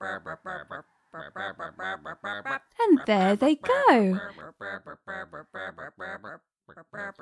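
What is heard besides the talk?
chickens clucking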